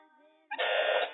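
A softer steady electronic tone gives way to a loud, harsh quiz-show buzzer that blares for about half a second at close range, then cuts off.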